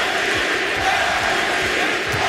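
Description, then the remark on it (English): A large crowd of fans at the Bradley Center loudly chants "MVP" for Milwaukee Bucks superstar Giannis during a game against the Trailblazers. The chant keeps a steady, repeating rhythm, its beats rising out of a continuous roar of voices, with no one speaking over it. “We may hear this all year, the crowd chanting MVP. Loudly chanting MVP.”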